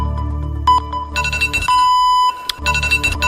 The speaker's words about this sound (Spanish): Ha sido increíble. Le ha sonado la alarma. Qué vergüenza.